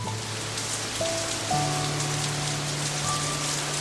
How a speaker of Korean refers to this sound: 좁고 답답한 현관 신발장에서 잠든 내 귀에 반가운 소리가 들렸다. 내가 좋아하는 비가 내리는 소리다. 후두둑 떨어지던 빗방울은 어느새 굵은 빗줄기로 바뀌고 있었다.